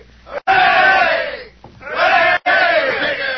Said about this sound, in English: Hey, here he comes now. Come on, fellas. Three cheers for Rigger McClure. Hooray!